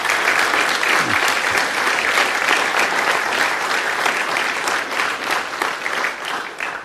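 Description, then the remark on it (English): A crowd claps steadily in a dense, even wash of applause that holds for several seconds before easing slightly toward the end, with no voices standing out. “It's appropriate to clap if you feel like you need to.”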